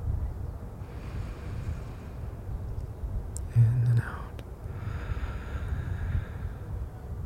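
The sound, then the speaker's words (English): During a guided breathing exercise, a slow, breathy exhale imitates a soft whooshing wind to help the breath, a steady low hiss lasting several seconds with a brief louder gust partway through. “It's a little bit of wind sound, maybe. That just helps our breath.”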